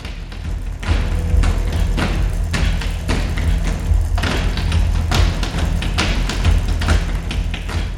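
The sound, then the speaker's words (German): Rhythmic foot stamping from a Kathak dance, an ancient dance from North India, performed on a stage: a rapid run of sharp, heavy thuds on a hard floor, loud, with a steady low rumble underneath and no voices. “Das ist Kathak, ein uralter, aus Nordindien stammender Tanz.”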